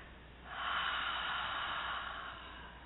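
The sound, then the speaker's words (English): A single long, deep breath in and then out through the mouth, airy, swelling quickly and holding steady before easing off slightly, with no one talking. “Let's just take a deep breath in, breathing up from the base of the spine. And then exhaling out of the mouth once you're filled up at capacity.”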